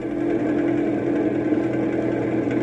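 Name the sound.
car engine running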